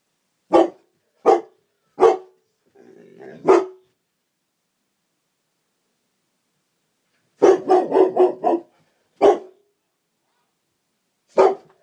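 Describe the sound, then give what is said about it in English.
A dog named Zeb barks at 8 o'clock in the morning in sharp, loud bursts: a few spaced barks, a softer whining grumble, then a rapid volley of barks followed by two more single ones, with silence between and no talking. “And then he started barking this morning at 8 o'clock.”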